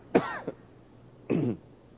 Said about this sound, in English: My wife heard a excuse me. We may have our designated throat-clearing moment coming soon.